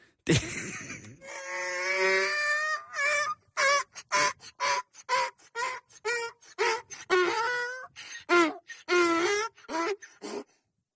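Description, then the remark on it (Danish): A donkey brays loudly, starting with a long drawn-out groan, then breaking into a rapid, rhythmic series of harsh hee-haw honks lasting about ten seconds, with no talking. “Prøv lige at høre, hvad det her æsel siger.”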